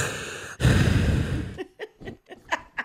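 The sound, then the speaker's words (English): Heavy breathing: one long, loud, rushing breath, then a string of shorter, quicker puffs in an uneven panting rhythm. No words are spoken. “Stop breathing.”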